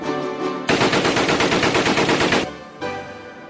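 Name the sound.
submachine gun fire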